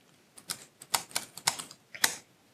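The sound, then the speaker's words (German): Rapid, uneven keystrokes clatter on a computer keyboard as an IP address is typed, about a dozen sharp clicks in quick bursts with brief pauses, fairly quiet, with no voices. “Und jetzt nehmen wir uns mal ganz frech, weil ich keine Lust habe auf DHCP, gerade eine IP-Adresse, wenn ich dann richtig tippen kann, aus dem Netz.”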